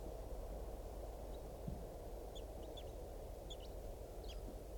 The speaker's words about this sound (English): Three eight seven loud there, and Wild bird is giving some very soft flight calls.